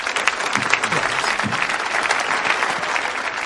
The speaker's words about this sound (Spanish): ¿De acuerdo? Un fuerte aplauso para ellos. Venga.